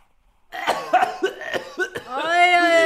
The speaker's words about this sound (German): Sie haben ja auch Husten. Okay. Gut. Aber ist schon besser als die letzte Woche, gell?